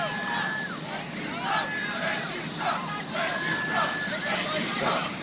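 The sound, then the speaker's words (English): A large crowd cheers and shouts continuously during remarks by Donald Trump, with rising and falling waves of yelling voices blending into a steady roar that stays loud throughout. “Not sure what they're cheering there, but thank you, Trump.”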